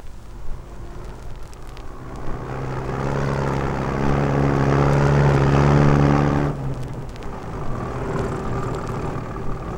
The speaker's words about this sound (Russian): Утром еще не успеет сойти роса, но полевая дорога уже пылит. Катит по ней с косцами машина.